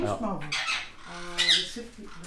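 Agitated show birds squawk loudly as their handler tries to calm them, a rapid run of harsh, raspy calls tumbling over one another with brief shrill peaks.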